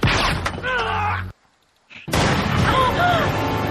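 Loud gunfire erupts in two dense barrages separated by a brief silence, with raised voices or shouting mixed into the blasts.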